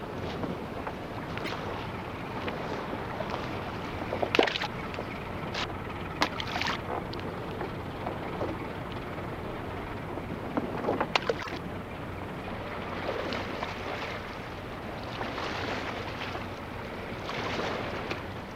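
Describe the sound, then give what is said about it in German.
Wooden oars knock and splash at irregular intervals as fishermen row their boat back toward the shore on a river, over a steady wash of water and light wind. No one speaks. “Vor dem nächsten Fang rudern die Fischer das Boot in Ufernähe zurück.”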